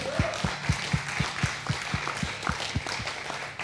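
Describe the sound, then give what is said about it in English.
An audience claps to honor a man as he comes forward, steady, evenly spaced clapping, about four claps per second, carrying on for several seconds with a quieter background wash of applause behind it and no one talking. “If you guys will clap as he comes forward, honor him.”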